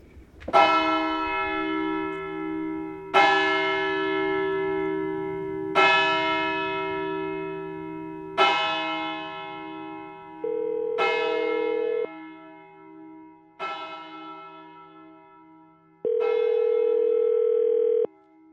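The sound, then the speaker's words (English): Large church bells in the bell tower of the church in Pontito toll in a slow, steady sequence, each strike ringing out with a long, shimmering decay, while a sustained electronic-sounding hum comes and goes beneath them. “And there's the bell tower in the church that Frank wanted us to see.”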